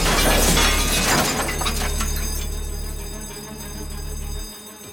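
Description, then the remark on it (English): A loud crash of breaking glass as a car, swerving to avoid an oncoming car, smashes through the display window of a clothing boutique, followed by shards tinkling and settling while a low engine rumble lingers before cutting off. “swerves to avoid an oncoming car and crashes through the display window of a clothing boutique.”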